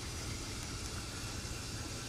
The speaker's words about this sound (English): Oh, that's what he wanted to hear, the sounds of the waterfall.